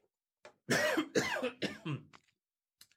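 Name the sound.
cough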